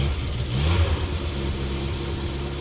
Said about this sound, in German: Er steigt ins Auto und setzt sich hinters Steuer. Er dreht den Zündschlüssel um. Rumpelnd springt der Motor an.